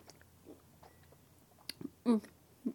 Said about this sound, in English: Okay, how about I just put the whole thing in my mouth? Mmm. Mmm. Mmm. It's interesting. Oh god, it's so chewy. It's really hard to chew.